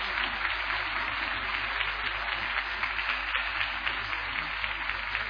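An audience applauds Jesus Christ steadily, a dense wash of many hands clapping at once with no break, loud and even throughout without any voices standing out.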